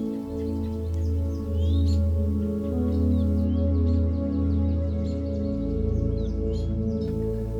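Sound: birds chirping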